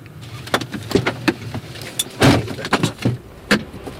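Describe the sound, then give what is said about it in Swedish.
A car door unlatches and swings open, followed by a scatter of clicks, rustles and shuffling as a man climbs out and his dog Inka jumps out, with one louder thud midway and no voices; the car is parked below Stigbergstorget in Gothenburg, Sweden. “Så öppnar han dörren och Inka hoppar ut och springer ganska fort bort till spåren, spårvagnsspåren, till gräsytan här.”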